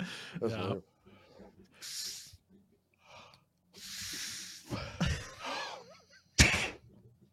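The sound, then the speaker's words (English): A person mimics blowing up a balloon, several breathy puffs of air, fairly loud, broken by short vocal grunts and ending in one sharp burst. “You ever blow up the balloon?”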